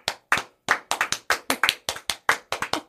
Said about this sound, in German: Wir klatschen für uns selbst, Digga. Komm, ja, wir können einmal wirklich... Ganz kurz, wir können mal einmal 20 Sekunden für uns klatschen.